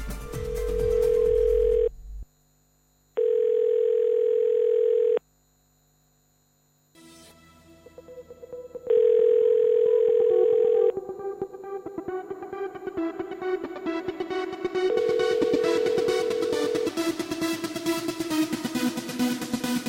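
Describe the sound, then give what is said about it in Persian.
A steady, mid-pitched telephone dial tone sounds in repeated two-second bursts with pauses between them, while dense electronic music swells underneath and grows louder through the second half. “ارتباط بگیریم.”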